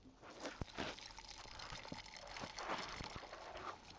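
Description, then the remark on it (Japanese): A soft, steady fizzing crackle of carbonated liquid on a cotton swab while the left ear is cleaned, with a few sharper pops scattered throughout and no talking. “それでは、左のお耳も炭酸綿棒でお掃除させていただきますね。”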